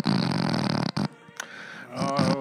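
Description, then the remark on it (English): A person reenacts their own snoring from nodding off, with loud, raspy, buzzing breaths: a long harsh snort, a brief pause and a short catch, then another rough inhale building up again. No words are spoken. “That's snoring. That's my snoring.”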